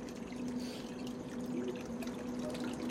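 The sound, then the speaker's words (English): A thin stream of muddy water trickles steadily and feebly into a bucket on a street, a constant pouring sound with a faint rising tone as the container fills, no voices present. “A thin flow of muddy water dribbles feebly into a first expectant bucket.”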